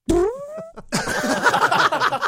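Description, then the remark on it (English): A short, squeaky little fart that rises in pitch, clear, followed after a brief pause by a longer stretch of busy, noisy rustling. “And a little fart came out.”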